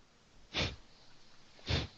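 sniffing

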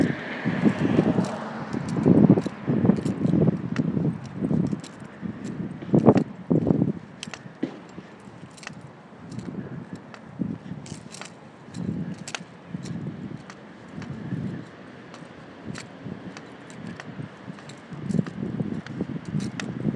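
strong wind blowing

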